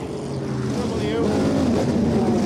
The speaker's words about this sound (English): That's the car getting underway. It's in second place in GTD Pro.